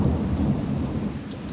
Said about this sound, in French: Le couloir est sombre, désert. Il y a juste le bruit de la pluie qui tambourine sur les verrières.